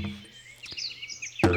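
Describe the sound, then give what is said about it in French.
A few quick, high-pitched chirps of small birds flit over a low, steady hum, with a brief sharp burst of noise at the end. “Cui-cui. Cui-cui. Clic-clac, les petits oiseaux vont sortir.”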